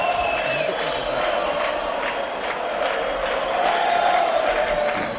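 Real Madrid supporters in the crowd at La Rosaleda stadium in Málaga chant "campeones" in a loud, steady roar, the many voices rising and falling in a rhythmic, sung pattern for the whole stretch, while some Málaga fans whistle; no single voice stands out.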